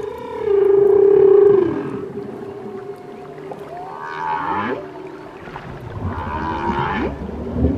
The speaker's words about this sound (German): Schön, oder? Wale. Buckelwale wahrscheinlich. Die hören sich einfach schön an. Manche sagen, die kommunizieren so. Für andere ist der Walgesang Musik.